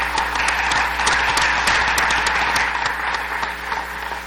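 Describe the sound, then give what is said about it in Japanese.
Steady applause from a group at a meeting, approving the nominated next-term officers. Dense overlapping claps are sustained at an even, fairly loud level for several seconds with no voices over it. “もしなければ拍手を持って承認していただきたいと思います。”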